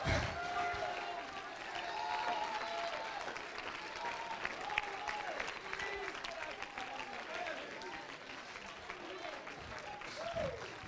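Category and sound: crowd, audience clapping hands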